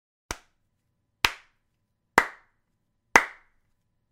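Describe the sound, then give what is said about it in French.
Five sharp hand claps from somewhere above, at a slow, steady pace, about one per second, each crisp with a short ringing tail, with silence between and no talking. “et vous allez entendre un applaudissement qui vient de quelque part en haut.”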